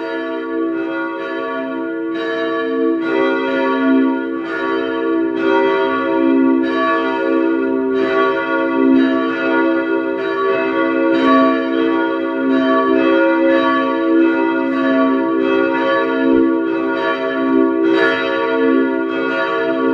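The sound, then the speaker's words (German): The bells of the parish church St. Ottmar unter den Weißgerbern in Vienna's 3rd district peal together at 12 noon in a continuous, overlapping ringing, with regular strikes recurring about every second over a sustained, rich hum. Loud, with no voices. “Es ist 12 Uhr. Sie hören die Glocken der Pfarrkirche St. Ottmar unter den Weißgerbern in Wien 3.”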